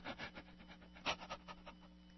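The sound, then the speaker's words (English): Quick, rhythmic mouth breathing, like panting: about ten short breathy puffs in a steady run, fairly quiet, with one stronger gasp midway and a faint low hum underneath. “Hear the mouth breathing?”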